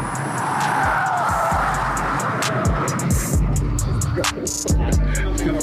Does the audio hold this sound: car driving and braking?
yes